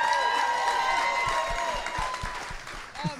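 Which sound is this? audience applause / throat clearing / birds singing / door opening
audience applause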